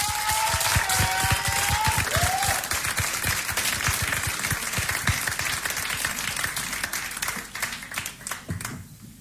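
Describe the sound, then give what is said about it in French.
A crowd applauds steadily, dense clapping filling the space for several seconds with a few whistles early on, then thinning and fading slightly toward the end. The audience is welcoming a band onto the stage at the 14th Tremplin de la chanson song contest. “Merci d'accueillir ce plateau des Tremplins Pichon, Vals. Applaudissements.”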